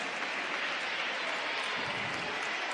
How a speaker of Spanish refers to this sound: Les damos un fuerte aplauso y se preparan ya.